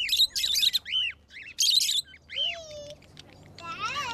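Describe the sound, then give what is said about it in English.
Cockatiels, parakeets and other colorful birds at a wildlife center in Sudan chirp and tweet in quick, overlapping bursts, with bright trilling calls and a few whistled notes, lively, over a soft murmur of background noise. “In one corner, children peer and laugh, pointing to cockatiels, parakeets, and other colorful birds.”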